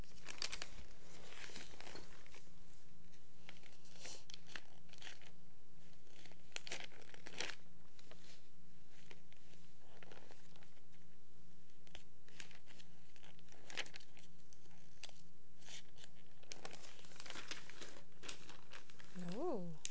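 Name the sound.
paper pages being turned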